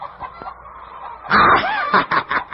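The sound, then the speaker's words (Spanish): A sudden burst of agitated hens on a farm clucking and squawking, loud, breaking out after a moment of quiet and continuing in frantic, uneven bursts. “Rápidamente, el feroz lobo se dirigió hasta una granja cercana, asustando a las gallinas que se encontraban allí.”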